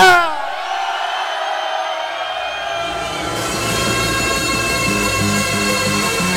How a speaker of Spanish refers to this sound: A ver, un fuerte grito, Lleida.